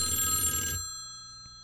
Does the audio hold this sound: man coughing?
no